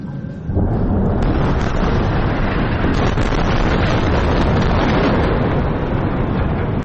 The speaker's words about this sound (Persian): صداهایی که در نوار غزه متوقف نمی شود، بمباران و انفجار، و پس از آن آژیر آمبولانس ها.